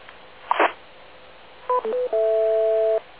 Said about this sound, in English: Okay, I'm giving us a single beep out on the Eastern Link. I guess that's okay.